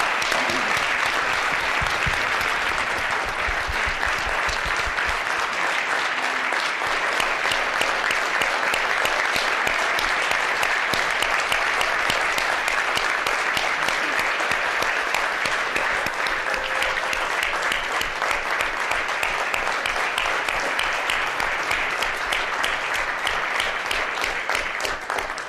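A crowd applauds steadily for about twenty-five seconds at a City Club of Boise public forum, a dense, even wash of many hands clapping with no pauses, faint voices mixed in beneath it.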